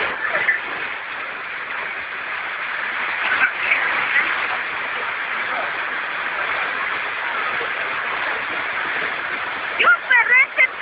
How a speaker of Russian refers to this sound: Впечатляет, не так ли? Я никогда не думал, что прорыв канализации может иметь столь эпичный масштаб. Причем дело происходит в Луганске.